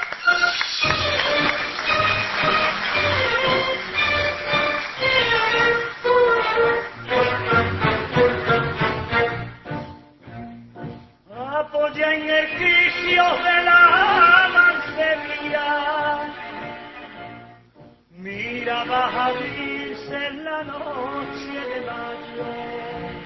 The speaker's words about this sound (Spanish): y que es una canción gitana muy hermosa, que escucharemos en la versión clásica